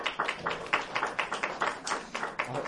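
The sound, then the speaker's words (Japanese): Light, scattered clapping from a modest group of lecture attendees who have heard the name Tadao Umezawa, about a dozen irregular claps spread over a few seconds, with no voices. The claps are fairly quiet and uneven, never swelling into full applause. “すいません、あのちょっと緊張をほぐす意味でもあの皆さんにお聞きしますけども、梅沢忠夫という名前を聞いたことがある方は拍手をしてください。”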